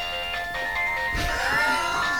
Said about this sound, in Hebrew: הטלפון שלך מצלצל, וזה הרינטון שלך.